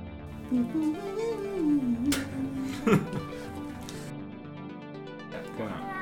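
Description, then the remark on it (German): A person's voice imitates a cat meowing, with a drawn-out, wavering pitch rising and falling over several seconds, moderately loud, followed by a brief sharp sound. “Ich kann die Katze sagen.”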